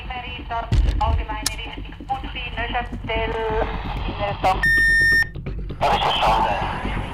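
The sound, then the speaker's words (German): An electronic alarm at an air rescue base in Bern sounds loudly for under a second, shortly before nightfall, with a shrill, steady tone, amid rhythmic clattering and voices talking in the background. “Bereits 2 Minuten nach Alarmeingang ist Riga 3 in der Luft.”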